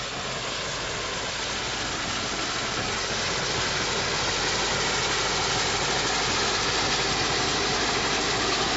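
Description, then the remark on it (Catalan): An engine that at first would not start has just started and runs steadily at a constant idle, a dense continuous rumble and hiss that holds the same loudness throughout, with no voices over it. “No arrencava, ara arrenca.”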